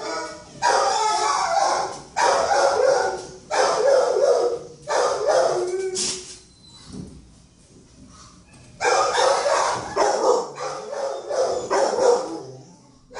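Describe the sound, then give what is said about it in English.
Many dogs bark loudly and continuously at an animal intake center, overlapping bursts forming a dense chorus of barks and yips that fills the space, with a brief lull in the middle before the clamor resumes. “All right, so as you would expect, lots of dogs barking, mm-hmm.”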